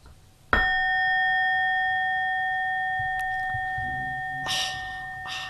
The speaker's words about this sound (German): Gong nochmal bitte.